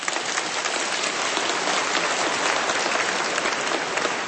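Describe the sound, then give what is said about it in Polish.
Steady, dense applause from a large audience for the Volunteer Fire Brigade wind orchestras of Pruszcz and Koronowo, conducted by Dr. Mirosław Kordowski, fills the whole stretch, a continuous crackling wash of many hands clapping at once, loud and sustained without pause. “Brawa!”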